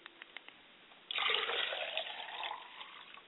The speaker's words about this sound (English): I pour libations finally to the South, and I say, Ashe. And I also pour water to the ground.